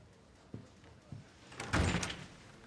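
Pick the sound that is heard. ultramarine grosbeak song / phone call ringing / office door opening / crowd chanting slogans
office door opening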